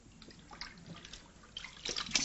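Water runs from a tap into a basin, a steady close splashing that grows louder and busier toward the end, with no voices.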